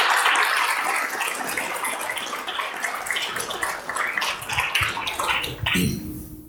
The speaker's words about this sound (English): A round of applause, please, for everyone who shared a story.